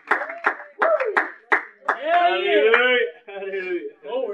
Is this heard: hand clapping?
yes